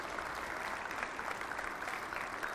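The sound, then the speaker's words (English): A church audience claps steadily for people just commissioned into their church responsibilities, many overlapping hand claps forming a dense, even patter at a moderate level with no voices standing out. “We can clap for them too.”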